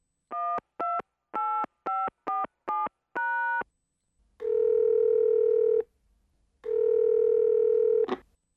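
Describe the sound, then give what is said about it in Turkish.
A quick series of seven or eight short, bright touch-tone beeps as a phone number is dialed for a morning call, followed by two long, steady ringback tones with a pause between, clear with no talking. “Ömer, bu sabah Salih'e telefon etti.”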